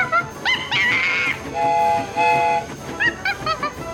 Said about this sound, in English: And as funny as a chimpanzee in overalls and a little cap driving a miniature train.